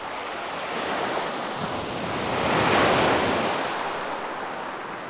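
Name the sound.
ocean waves breaking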